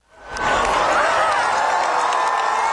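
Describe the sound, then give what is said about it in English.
A large crowd gathered at Gemelli Hospital cheers and shouts Pope Francis's name as he appears on the hospital balcony, the roar swelling quickly within the first half second and then holding steady, loud and dense, with many voices calling out together. “As the Pope appeared from his balcony of Gemelli Hospital, the crowds that had gathered to see him cheered and shouted his name.”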